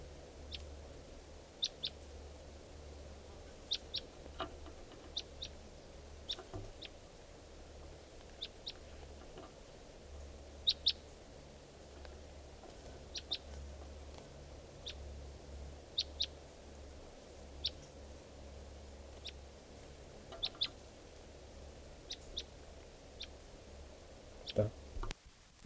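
wild bird calling

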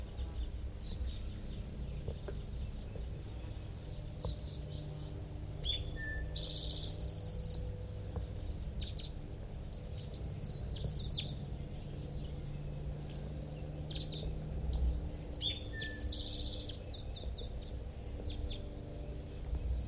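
male bird singing

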